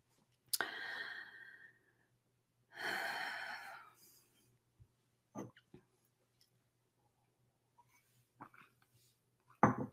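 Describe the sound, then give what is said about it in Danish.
A deep breath taken at the start of a short guided meditation: one sharp inhale, then a longer, airy exhale a moment later, followed by near silence with a few faint clicks and rustles. “Men tag et dybt åndedrag, og så læn dig godt tilbage, og så laver vi lige en kort meditation her, hvor vi lige får renset vores energi.”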